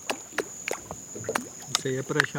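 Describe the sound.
A series of quick, light splashes as fingers flick at river water, about six irregular slaps, with a thin steady high whine throughout and a voice murmuring near the end.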